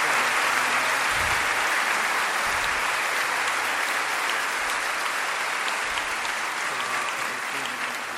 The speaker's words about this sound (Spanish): Le vamos a brindar un fuerte aplauso a nuestro obispo.